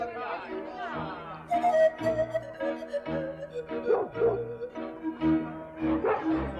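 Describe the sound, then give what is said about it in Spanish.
Hunting dogs bark in repeated excited bursts, some yelping, loud, over a steady low droning background. “Venían corriendo hacia nosotros con palos y perros de caza.”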